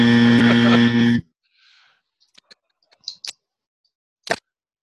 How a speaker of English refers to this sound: All right, yeah. How about Chad, the buzzer has forced you to break up.